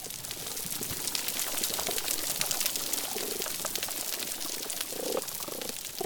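Underwater reef chorus: a dense, steady crackle of snapping shrimp fills the background while low fish grunts and croaks pop up repeatedly, several clustering near the end.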